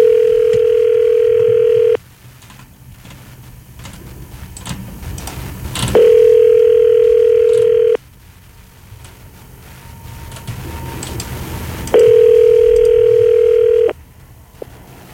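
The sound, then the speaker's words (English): A phone call to a mobile number ringing out: three steady two-second ringback tones, evenly spaced about six seconds apart, loud and clear with quiet line hiss in the gaps and no voices. “Let's call him, see if he wants a pedestal fan in exchange for his cheese string.”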